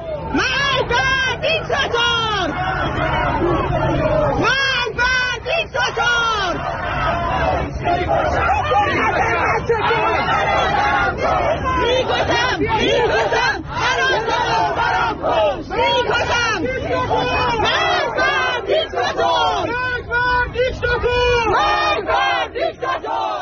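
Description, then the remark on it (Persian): A large crowd of protesters at a protest gathering against the Islamic Republic in Sattarkhan, Tehran, Iran, chants and shouts together in loud, rhythmic bursts, many voices overlapping continuously throughout with a dense roar of babble beneath. “صدای یکی از این تجمعات رو بشنویم.”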